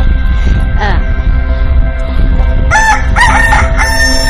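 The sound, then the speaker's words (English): A parrot lets out a run of loud, harsh squawks in quick succession, following a faint earlier call over a steady low background hum. “Anytime someone gets near his nasty old parrot, they bite.”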